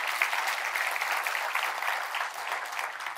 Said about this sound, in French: S'il y a des gens qui le croient, est-ce qu'on peut applaudir notre Dieu qui sert de nous?